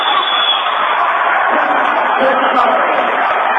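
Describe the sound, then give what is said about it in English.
A crowd at a basketball game roars loudly and steadily after a banked-in shot cuts the Trolls' deficit to five points, a dense wash of many voices that holds at full strength for nearly four seconds without fading. “Crowd roaring.”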